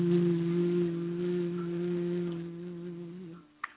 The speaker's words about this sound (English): Hands still above your head. Bend down to touch your toes. Low hum going down. Hum.